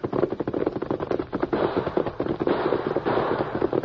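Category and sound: sound effect, gunfire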